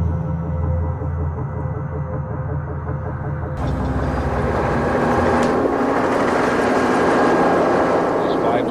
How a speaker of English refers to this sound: State police helicopter drops it. There is the explosion.